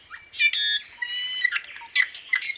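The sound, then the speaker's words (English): A native Hawaiian forest bird calls in a quick series of bright, squawking and whistled notes, some harsh and buzzy, others clear and rising, heard alone with no talking. “I've seen and heard this spectacular bird on Kauai and Oahu and Maui and Hawaii islands”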